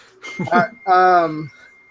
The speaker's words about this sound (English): What was that thing? Nothing. Oh, it was my cell phone. Let me turn that off.